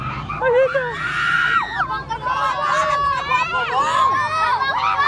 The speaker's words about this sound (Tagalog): At sa mga part na yan, talagang nasisigawan na yung mga tao